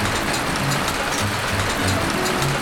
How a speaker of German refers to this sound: So, jetzt fängt es an zu hageln.